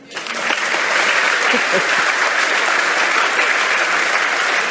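A conference audience applauds steadily, dense clapping rising quickly and holding at an even, loud level for several seconds without breaks.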